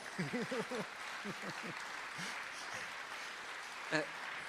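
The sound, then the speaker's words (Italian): An audience applauds with steady, dense clapping that fills the whole stretch, while a voice speaks briefly over it at the start and again near the end. “Se dovete applaudire, non è che...”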